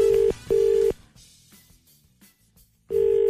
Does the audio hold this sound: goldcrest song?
no